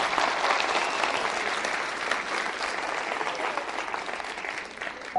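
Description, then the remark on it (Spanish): Steady audience applause for the sixth commandment, 'do not fornicate', a dense wash of many hands clapping at an even level for about five seconds, with no voices standing out above it. “Vamos a darle un aplauso al sexto mandamiento, no fornicar.”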